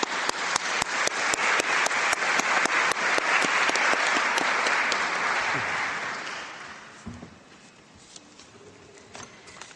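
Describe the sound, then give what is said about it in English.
A seminar audience applauds to thank two speakers for their input, with dense, rapid clapping that holds loud for about six seconds, then fades out, leaving a few scattered claps and faint murmuring. “I give them a lot of applause, I think.”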